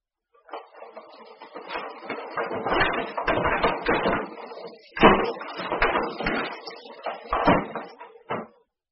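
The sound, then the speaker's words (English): Dishes clatter and clink steadily for several seconds as they are washed and dried, with dense bursts of knocking and scraping, a few sharper, louder clanks, and no voices. “Mr. Chan is washing the dishes. Eddie is drying the dishes.”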